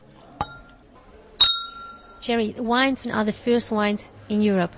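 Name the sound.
wine glasses clinking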